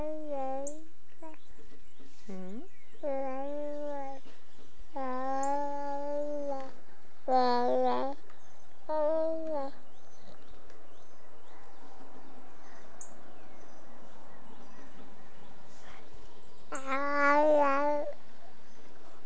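A cat meows repeatedly, a series of about half a dozen drawn-out, wavering cries in quick succession, then a long quiet stretch before one last loud meow.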